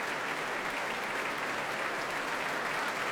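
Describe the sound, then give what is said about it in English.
Sustained applause from a large audience in a concert hall at the BBC Proms, for the world premiere of Earth Music One as composer Edward Carey takes a bow, a dense, steady wash of clapping that holds level throughout with no voices standing out. “I'm sure delighted by the reaction of the crowd in the hall here to this particular work, which is the first of a series, as I mentioned earlier, drawing attention to fragile and endangered and yet beautiful areas of the world.”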